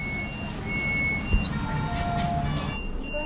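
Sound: hospital monitor alarm beeping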